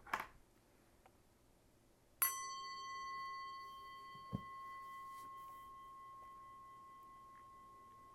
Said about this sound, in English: And when I ring the bell, the meditation will begin.